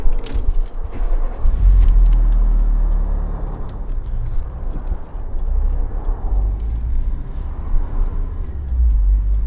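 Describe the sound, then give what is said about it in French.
Car keys jangle sharply for a moment, then a car engine starts with a deep rumble and keeps running steadily as the car pulls away from beside a motorway after its wheels were checked for a flat tyre. No voices. “Repartir.”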